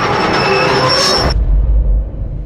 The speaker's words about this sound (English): He hears the steam whistle of the express and the desperate screeching of brakes.